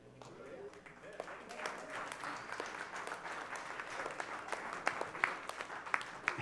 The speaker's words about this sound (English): We can clap our hands and we can cheer, and I'm glad you do because I know you share that vision.